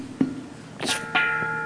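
A bell is struck a few times, a light tap followed by two firmer strikes, its clear metallic tones ringing on and slowly fading, with no voices.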